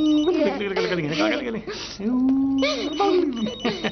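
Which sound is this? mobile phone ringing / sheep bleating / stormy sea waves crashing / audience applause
mobile phone ringing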